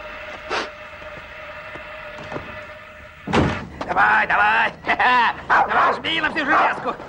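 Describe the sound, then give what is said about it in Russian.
After a few quiet seconds with a faint hum, a dog starts barking: a loud, rapid string of sharp, yelping barks that continues to the end. “А может, это вовсе и не собака, а робот.”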